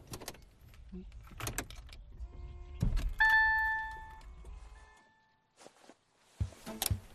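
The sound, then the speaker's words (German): An electric car powers up with a soft electronic chime of steady tones over a low hum, then shuts off into near silence, surrounded by clicks, thumps and rustling inside the cabin. “Einmal Motor an, bitte. Der ist schon längst an. Okay, dann machen wir mal an und aus.”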